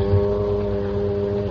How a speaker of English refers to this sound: And listen to the foghorns. Yes, a very agreeable sound. I like it very much. Man, if that isn't a San Francisco sound for you, I never heard one.